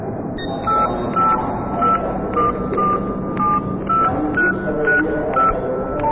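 A phone number being dialed at an airport: about a dozen short, clear keypad tones in a steady, brisk rhythm, each a different pitch, over a constant low background rumble and murmur.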